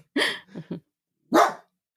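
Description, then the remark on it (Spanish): A small dog barks, a sharp yap followed by two quick shorter yips, then a pause and one more loud bark. No one speaks. “Perrito.”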